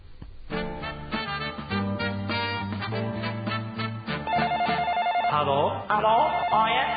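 A telephone rings with a musical, electronic ringtone, a steady repeating melodic pattern that grows brighter and busier toward the end, loud with no talking.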